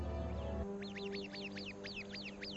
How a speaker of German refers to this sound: Der wachhabende Vogel schlägt sofort Alarm.